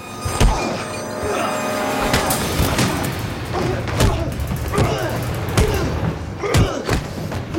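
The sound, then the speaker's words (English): A scuffle of heavy thuds and blows lands at an uneven pace, loud, as two people exchange blows and a gun clatters to the floor amid strained grunts and breathing. “The gun falls to the floor as Wanda and Ludlow exchange blows”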